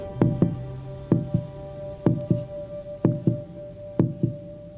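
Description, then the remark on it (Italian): A human heartbeat thumps in a steady lub-dub rhythm, five double beats about a second apart, low and muffled over a faint continuous hum, with no voices. “Come batteva il cuore dell'uomo?”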